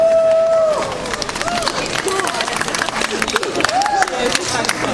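A crowd at the Pirkanmaan Seta Pride celebration applauds steadily as the chair of the rainbow association Valmu is invited to the stage, dense clapping mixed with a few whistles and scattered cheers, loud.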